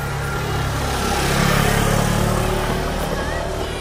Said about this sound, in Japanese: 相模川沿いを原付2種で北上です。